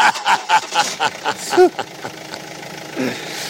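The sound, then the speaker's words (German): An old tow truck engine runs steadily as the vehicle drives a short distance to a Corvette stuck in a ditch, its rough, uneven chugging moderately loud, with a few brief higher squeaks over the rumble. “Kurze Autofahrt.”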